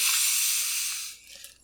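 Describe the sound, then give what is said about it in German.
A soda bottle is twisted open with a strong hiss of escaping gas that lasts about a second before quickly fading away. No one speaks. “Aber ich werde jetzt die mal öffnen.”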